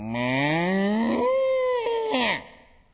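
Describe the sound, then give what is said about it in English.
A person singing a children's farm-animal song imitates a cow with one long, drawn-out "moo" that rises in pitch, then holds steady before trailing off. It's loud, lasting a couple of seconds. “My old cow went.”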